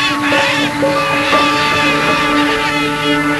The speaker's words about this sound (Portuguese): A algazarra das araras desperta a floresta.